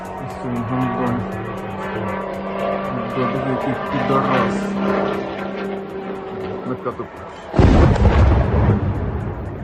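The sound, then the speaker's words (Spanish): An Iranian-made Shahed kamikaze drone gives a steady, moped-like buzzing engine drone overhead for several seconds, its pitch wavering slightly, before a sudden loud explosive blast cuts in near the end. “Los ucranianos los llaman motos por ese sonido que emite al atravesar el cielo. Es un dron de fabricación iraní llamado Shahed y sería la nueva arma con la que Rusia estaría golpeando a la población ucraniana.”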